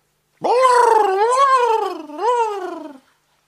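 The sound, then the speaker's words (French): A voice imitates a perplexed octopus with one long, wavering, nasal moan, sagging and swelling in pitch, then dipping before a final questioning rise, heard alone for about two and a half seconds. “C'est au tour du poulpe perplexe.”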